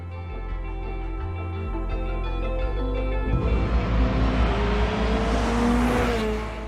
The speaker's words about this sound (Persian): واسه چیزی که رو چمن حرکت میکنه سرعت خوبی داره. اون ماشین به خصوص از 91 بیشتر نمیره.